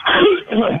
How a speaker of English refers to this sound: I couldn't tell when he coughed or sneezed.